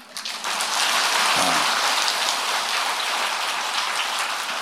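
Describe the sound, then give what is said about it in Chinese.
A crowd claps in a steady, dense patter of crackling applause that holds an even level for several seconds, with no one speaking over it. “掌声不是太热烈，下半部就不讲了。”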